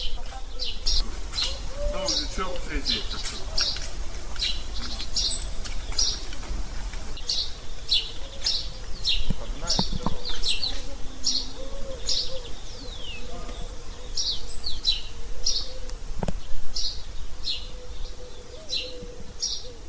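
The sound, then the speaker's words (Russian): Laughing doves, also called Egyptian doves, call to each other from all around with soft, low, bubbling coos in repeated phrases, set against a steady stream of high, rhythmic chirps from small birds or insects. “Горлинки тут заменяют деревенских петухов. Перекликаются со всех концов.”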